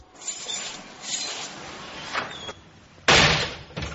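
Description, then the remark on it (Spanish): A heavy metal prison cell door grinds and slides along for a few seconds, then slams shut with one loud, harsh bang, followed by a brief rattling clank. No one speaks. “Es el sonido del cierre de una celda, ¿no?”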